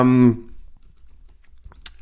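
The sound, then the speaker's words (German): Sparse crinkly rustling of a pile of plastic bags, a few soft crackles followed by a sharper burst near the end, after a brief voiced sound at the start. “Oh, ich glaube, ich habe da so einen Haufen Tüten. Ja, deine Tüte, Tüte fällt die fangen langsam an zu leben.”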